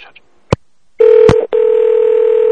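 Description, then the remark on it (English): A sharp click, then a steady electronic telephone tone that breaks off briefly around another click before resuming as a continuous hum-like ring tone, as a phone call is placed to a hotel, with no voices. “So we're calling the hotel.”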